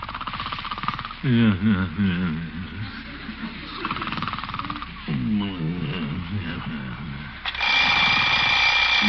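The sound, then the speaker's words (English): An alarm clock bell bursts into loud, continuous ringing near the end, early in the morning, after a stretch of muffled background noise and a couple of drawn-out groaning vocal sounds. “Oh, alarm.”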